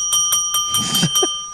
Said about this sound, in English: that's just actually a bell that's literally sitting next to Ryan